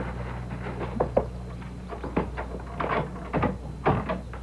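A front door being unlocked with an extra key made in Concord and opened: a series of metallic clicks and wooden clunks, irregularly spaced over a low steady hum, with no one talking.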